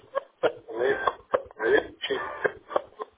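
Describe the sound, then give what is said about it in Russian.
A faulty radio, played over the phone to a service operator, sounds in choppy fragments, its muffled voice repeatedly breaking off between sharp crackling bursts of interference, the signal cutting in and out over about three seconds. “Так, помехи идут, прерываются.”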